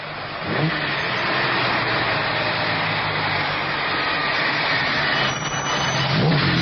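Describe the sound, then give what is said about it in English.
A new car's engine revs and pulls away, a loud, steady roar that fills the whole stretch and swells slightly near the end, with no voices. “Nice new car. Come on, move.”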